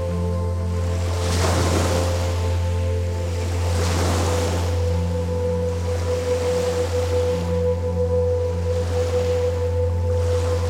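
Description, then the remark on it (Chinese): Waves wash in and break in repeated hissing surges every few seconds, with a steady low rumbling hum running underneath throughout. No one speaks. “以前呢度系会听到海浪声，个海好近，就喺你眼前。”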